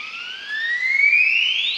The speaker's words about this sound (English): What is making that wonderful sound? High in the mountains of Chiapas, the southernmost state of Mexico, a male Highland Guan is performing his territorial display.